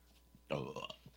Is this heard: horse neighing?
no